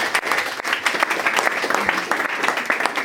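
A crowd applauds steadily, many hands clapping in a dense, sustained wash of bright crackling noise at an even loudness for a few seconds.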